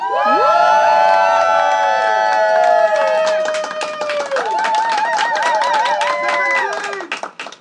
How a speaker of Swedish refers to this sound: Kan jag få lite hype? Applåder.